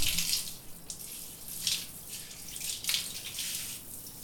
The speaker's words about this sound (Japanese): じゃあシャワーで流すね。目つむっててね。泡が目に入ったら大変だから。はい、じゃあ流していくよ。泡残りがないようにしっかり流すからね。